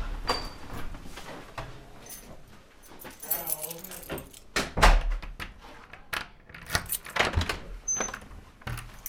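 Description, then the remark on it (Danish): Keys jangle and scrape in a lock, followed by clicks and the thuds of two locked doors being unlocked and pushed open to enter a medicine room at a residential home for people with mental illness, with brief faint voices in the background. “Vi skal gennem hele to døre med lås for at komme ind i medicinrummet på Slotsvænget, som er et botilbud for psykisk syge.”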